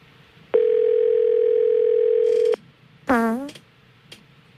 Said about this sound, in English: Being a soundboard engineer here, I know that once you put that number in, it takes about 20 seconds for us to hear that ringtone.